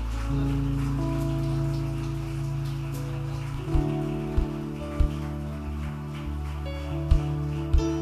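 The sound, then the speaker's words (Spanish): An audience applauds for the Holy Spirit during a morning service, a steady, dense wash of clapping that holds throughout, over sustained keyboard chords and a few scattered low drum thumps in the second half. “Este aplauso es para ti, Espíritu Santo.”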